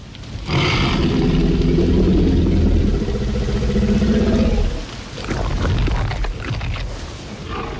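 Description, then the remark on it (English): The deep, rumbling growl of a hungry T-Rex from the film Jurassic Park swells for about four seconds with gravelly low tones, breaks off briefly, then returns as a second, slightly rougher growl. “The menacing growl of a hungry T-Rex ushered in the dark side of gene tinkering in the film Jurassic Park.”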